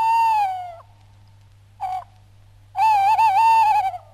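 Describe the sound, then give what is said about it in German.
Tawny owl and long-eared owl hooting on a full-moon night: a long, falling hoot, a pause, a brief short note, then a drawn-out wavering hoot, clear over a steady low hum, with no talking. “Wenn man etwas hört, dann hört man dann vor allem Waldkutz und Waldohrrüle.”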